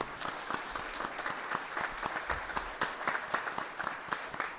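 A large indoor crowd applauds steadily, many hands clapping at once in a dense, sustained patter of sharp claps that holds evenly throughout without a break.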